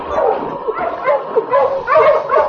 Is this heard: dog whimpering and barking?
yes